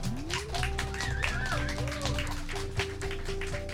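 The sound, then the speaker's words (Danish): An audience claps steadily for a few seconds to welcome panel guests, the dense patter of hands mixed with a bright musical sting with gliding tones playing over it. “Skal vi give dem en hånd?”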